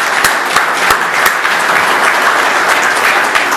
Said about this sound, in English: No, they're out front. Let's clap anyway, please.